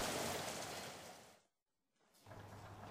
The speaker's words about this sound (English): And it's raining.